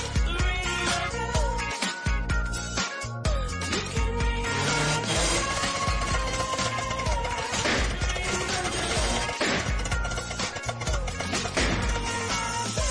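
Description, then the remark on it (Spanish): A car breaking down: loud, continuous mechanical grinding and rasping with repeated clanks and crashes, heavy, for several seconds without any voices. “Tranquilo, tu coche no se ha averiado. Pero si no vas en un Toyota, este ruido podría haber sido real.”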